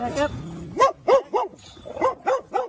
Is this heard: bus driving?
no